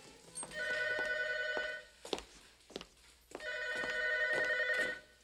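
telephone ringing

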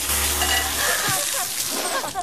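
water spraying

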